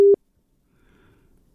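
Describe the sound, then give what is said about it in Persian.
A single short, steady beep of a phone busy tone sounds at moderate pitch as a listener's call to a radio health programme drops, then cuts off into near silence with only a faint low murmur of background noise. “فکر میکنم نت ضعیف است. تماس شنونده عزیز با ما قطع شد.”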